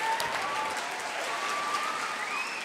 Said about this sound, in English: The point is not the points, the point is the poetry. A round of applause for